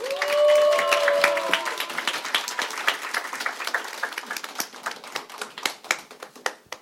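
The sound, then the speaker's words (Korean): An audience applauds at a public radio broadcast in Sangsu-dong: dense, crackling handclaps swell at the start with a few whoops or cheers, then thin out into scattered, individual claps that gradually fade, welcoming a live song performance. “따뜻한 박수로 청해드릴게요.”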